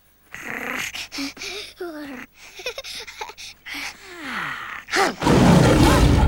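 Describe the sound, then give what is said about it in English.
Growling, snarling vocal sounds and brief voices lead into a sudden, loud lion roar as Simba roars in anger. The roar bursts out at the end, harsh and rumbling for about a second. “Simba roars in anger.”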